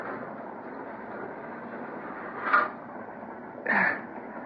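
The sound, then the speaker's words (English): A heavy boxcar door is slid shut over a steady rumbling train, with a brief scraping thud followed about a second later by a louder, longer clanking slam. “Only one boxcar and open door. I made it just in time. Yep, better close the door.”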